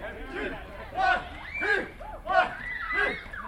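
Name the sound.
crowd cheering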